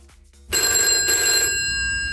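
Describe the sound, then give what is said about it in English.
A landline telephone's bell rings loudly, one sustained metallic burst of about a second that then lingers and fades, with no talking over it. “No, that's a landline phone.”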